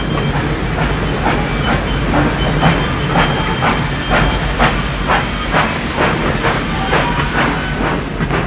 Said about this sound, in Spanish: El tren se detiene.